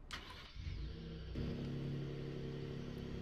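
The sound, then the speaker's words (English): A pickup truck engine turns over and catches, then settles into a loud, steady low rumble with a rising drone as the truck spins a donut to throw a bale off its bed, with no talking. “Best way I know how to get rid of a bale in the back without starting up the loader tractor is just do a little cookie.”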